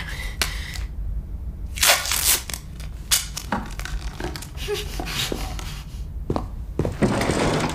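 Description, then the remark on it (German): Adhesive tape is ripped off a roll in several harsh, crackling pulls, with scuffling and handling noises between them, as it is used to gag people, ending in a long, loud stretch of tape. “knebel sofort meine Eltern wieder.”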